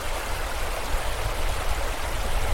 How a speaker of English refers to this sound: But, oh no! Look at the rapids. 6 feet of fast, freezing, running water lay between them and the safe, icy surface of the far side of the Great White River.